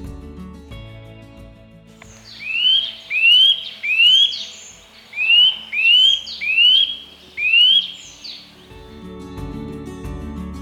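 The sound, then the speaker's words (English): Nuthatch calls: seven loud, high, upward-sweeping whistled notes, a quick run of three followed by four more after a short pause, with no talking. “As the weather turns colder, and particularly into late autumn, nuthatches are more likely to visit gardens. Listen out for them like this.”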